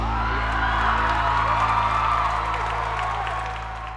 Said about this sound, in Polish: I razem poprowadzimy cię przez tę sztafetę. Drobnie brawa!